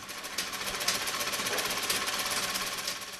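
A sewing machine runs steadily at a sewing class organized by trafficked brides, with a fast, even mechanical rattle of needle strokes, a buzzing clatter that holds at a constant level throughout, with no voices.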